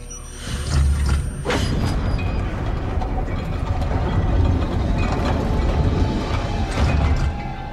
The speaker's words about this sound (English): In the passageway, Seth puts his device onto another wall and presses buttons on it. Another door slides open.